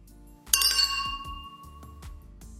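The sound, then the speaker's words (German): Glasses of rose schnapps clink together in a toast, one bright, ringing chime that lingers and fades, followed by a few softer taps and faint background rumble. “So, mein Freund, Prost und pass auf dich auf.”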